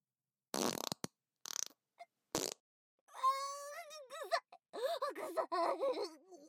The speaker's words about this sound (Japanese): 臭いよ。離して。臭くて苦しい。 おならごときに随分情けない声を出すのね。私はあと何十回でも出せるのよ。臭い匂いに耐える訓練はしたことないの？